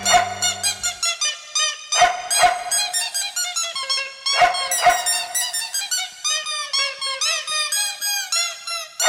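Squeaky dog toys squeak loudly in a rapid, continuous stream of high-pitched squeals, rising and falling almost like a tune, with a few sharp thumps and no voices.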